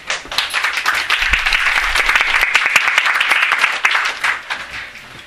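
A crowd at a lecture claps steadily for several seconds, a dense wash of many hands applauding at full strength before it begins to thin out toward the end.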